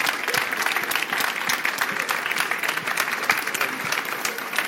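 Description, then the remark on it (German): An audience applauds steadily for about five seconds for the student reading scouts and their fan club from Oberschule Zschorlau, a dense, even wash of many hands clapping at a fairly loud level with no voices on top. “Einmal ein Applaus für unsere Lesescouts und für den Fanclub.”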